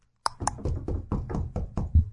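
A rapid series of about ten firm knocks on a front door, evenly paced and insistent, with the final few blows landing harder and louder. No voices accompany the knocking.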